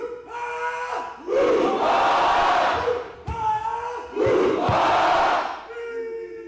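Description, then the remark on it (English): A lone voice shouts a drawn-out call and a large crowd of family, friends and spectators at games in Juneau answers with a loud, excited roar of cheers; the call-and-response happens twice in quick succession. “Not only did he compete, but he was also in charge of getting the crowd of family, friends, and spectators excited.”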